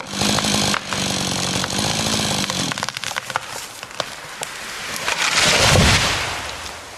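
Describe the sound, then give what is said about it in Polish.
A chainsaw drones steadily while cutting into a tree in a forest, its engine pitch shifting as the blade bites, then a heavy crashing rumble swells near the end, like the trunk giving way. “Przed hukiem zwykle słychać w lesie piłę, ewentualnie siekierę i odgłos wbijanych w pień klinów.”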